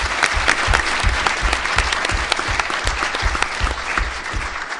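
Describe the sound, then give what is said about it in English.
A seminar audience applauds steadily, dense overlapping claps forming a loud, continuous wash of sound that holds even for about five seconds, with no voices standing out. “Would you please give her a round of applause?”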